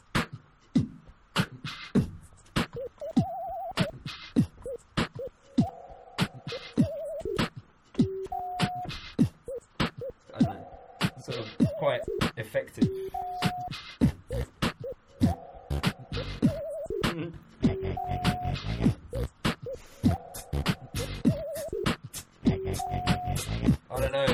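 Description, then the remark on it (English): A cheap green effects box turns a voice into robotic, Dalek-like warbling tones that hop between a few fixed pitches, layered over a fast, steady stream of sharp percussive clicks and thumps. “I bought it for like 100 quid in a shop, and it sounds like shit. But it's fun because it's good for doing like Dalek noises”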